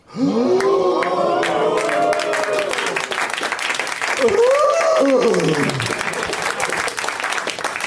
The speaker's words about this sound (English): Long applause.